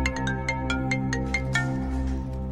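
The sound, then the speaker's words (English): A mobile phone rings after a number is dialed, with a quick, repeating electronic melody of bright, evenly spaced notes over a steady low hum, with no one speaking. “then dials a mobile phone.”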